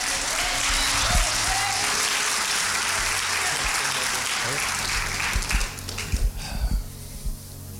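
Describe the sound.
An audience claps steadily in a dense, hissy wash of applause that gradually thins and fades, with a voice starting to speak over the last few seconds.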